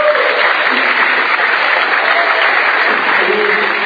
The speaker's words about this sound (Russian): Потребуем аплодисменты.